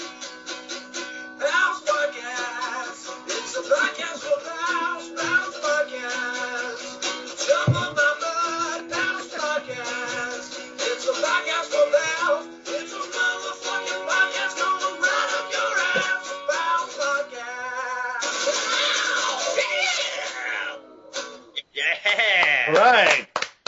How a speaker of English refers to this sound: here it is, live for the first time in history of the Pal's Plopcast, the news theme song